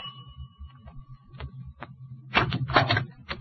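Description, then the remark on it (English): A doorbell rings with a steady tone at the front door of a house on Granger Avenue, then the door opens with a burst of rattling and clunking handle and latch noise. “I rang the bell and waited.”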